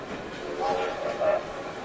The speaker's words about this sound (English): Soon he sees some red and green lights and the noise of a train.